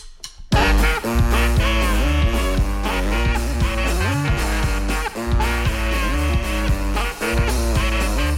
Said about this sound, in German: Und wir hören jetzt auch eines und zwei Saxophone insgesamt bei …